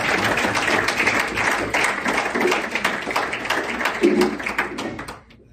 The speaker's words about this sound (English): All right, let's give him an applause. Thank you.